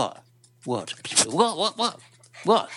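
A dog, one of two dogs being dog-sat at the speaker's house, vocalizes in a string of short, whiny yowls and grumbles, each sliding up and down in pitch, with brief pauses between bursts and no human talk over them.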